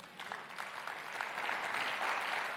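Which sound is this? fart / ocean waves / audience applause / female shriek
audience applause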